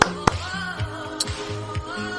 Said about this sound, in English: The traditional clap is loud, kind of from the fingers in the opposite palm.